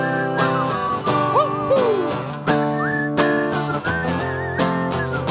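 Audience members whistle a wavering, sliding melody along with a loud band playing steady chords of a love song, the whistles rising and dipping above the music throughout.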